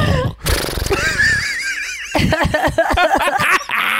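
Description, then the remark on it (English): A person imitates a horse whinny, a loud wavering neigh with a shaky, trilling pitch that rises and falls over a few seconds, followed by breathy snorting bursts, clear. “You've never done a horse?”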